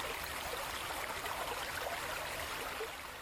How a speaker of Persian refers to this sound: در ولسوالی شرقی چشت شریف، جایی که کوها سایه سار رود حریرود شدند، دریچه های سد سلما باز شدند تا آبی گرانبها را در رگهای خشک زمین های هرات جاری سازند.